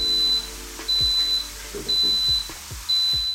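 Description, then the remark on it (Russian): A grill's ready signal as a steak finishes cooking: a high, thin electronic beep sounds four times in an even rhythm, each tone about half a second long, with soft low knocks and clatter underneath. “Нужно только дождаться, пока на гриле не загорится сигнал готовности и не прозвучит звуковой сигнал.”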